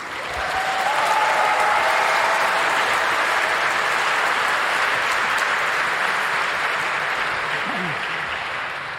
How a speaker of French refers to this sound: Tu gagnes 2 voix parce qu'il y a eu un applaudissement nourri. Ça s'est bien passé.